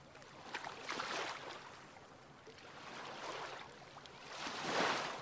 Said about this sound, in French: L'idée est de plonger ensemble dans ces eaux profondes et de titiller votre oreille au son et à la mesure du clapotis des vagues.